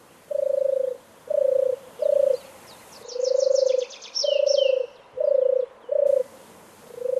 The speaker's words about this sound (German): Und die berühmte Turteltaube, die übrigens nicht in der Stadt lebt und ein Wildvogel ist, die turtelt so.